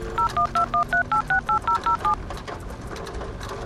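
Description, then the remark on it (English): A phone number being dialed to call someone: a quick, even run of about ten touch-tone beeps over steady background noise, clear, followed by a couple of seconds of quiet hiss. “I'm gonna give him a call.”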